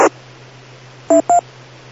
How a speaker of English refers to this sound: You push this button, and it throws the CW carrier out, and it goes beep, like you hear the throw in it. And then when it's done, it matches it, and then you're tuned.